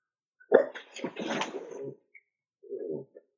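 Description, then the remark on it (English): A small Lhasa-terrier mix dog, 17 years old, barks and yaps in a sharp, rough burst lasting over a second, then falls quiet before one shorter bark follows. No one speaks. “What kind of dog do you have?”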